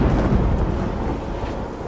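Steady heavy rain hisses throughout while deep thunder rumbles low and continuous underneath, loud, with no voices present.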